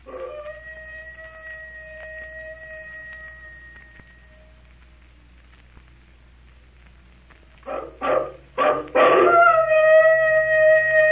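A long, steady, eerie howl slowly fades away; after a quiet pause, a few rough, snarling bursts lead into a loud, high, rising werewolf-like howl, coming from inside a temple in answer to a call.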